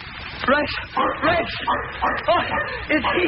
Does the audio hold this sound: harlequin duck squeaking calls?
no